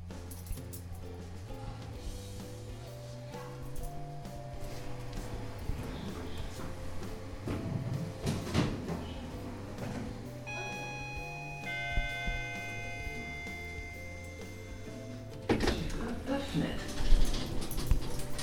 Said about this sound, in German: Das sind die Geräusche unseres Schullifts.